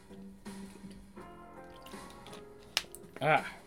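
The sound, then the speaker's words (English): A soft murmur of voice gives way to a small click and then a brief gurgle of water being sipped or poured, lasting only a moment near the end. “A little bit of water here, folks.”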